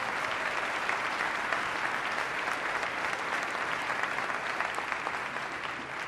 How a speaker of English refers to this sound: Let's give them a round of applause and thank them for their service.